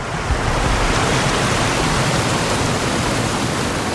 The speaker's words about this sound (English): As we approach Polentier, the roar of the water becomes increasingly louder. This is just before the flow into Polentier.